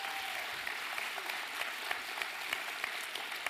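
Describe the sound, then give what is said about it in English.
A church audience claps steadily as the youth group and kids' church are dismissed, a dense, sustained wash of applause with scattered sharper hand claps standing out, heard from within the crowd. “So, with that said, our youth group and our kids' church, you're dismissed with a big old round of applause.”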